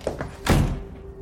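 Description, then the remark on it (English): A bedroom door is slammed shut by someone storming in, one loud, heavy bang preceded by a couple of light knocks, then a faint lingering hum in otherwise quiet surroundings. “I stormed into my room and slammed the door.”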